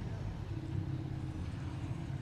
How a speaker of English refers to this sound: It's a big truck route. That's a problem. I'll try to stop when there's a truck coming if I'm not in the middle of a sentence.